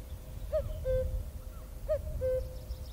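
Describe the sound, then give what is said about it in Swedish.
A cuckoo calls its two-note cu-coo twice in a steady rhythm, clear, over a low, rumbling outdoor background with no one speaking. “Det är när man går ut i skogen och lyssnar på jökens rop.”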